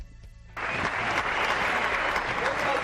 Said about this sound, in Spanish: Aplausos, flores para la llegada de López de Avechucho.